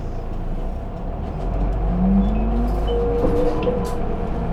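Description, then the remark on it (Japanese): A bus engine rumbles up as the bus pulls away from a stop after its doors close, its drone rising in pitch as it accelerates, with a steady low roar and faint rattles from inside the cabin. “扉が閉まります。 発車します。お捕まりください。”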